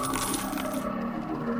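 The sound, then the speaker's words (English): Coins drop and clatter together in a continuous metallic jingle for a moment, fairly loud, with bright ringing tones and no voices. “The one that touched these coins has the gift.”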